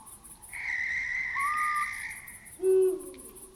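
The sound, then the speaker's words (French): An owl calls at night in a bare, leafless wood, a drawn-out tonal cry followed by a louder, deeper hoot near the end, while insects chirp steadily in a rhythmic pulse in the background. “Comme cette chouette qui apparaît à gauche de la scène en train de voler silencieusement.”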